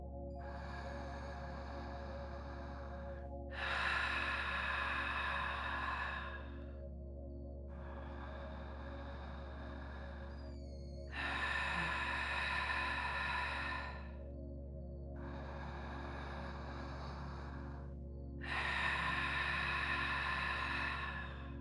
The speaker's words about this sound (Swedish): Medan du andas ut ger du dig ifrån dig ett väsande. Du åstadkommer ljudet genom att knipa ihop längst bak i halsen. Medan du pressar ut luften.